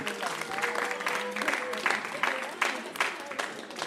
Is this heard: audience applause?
yes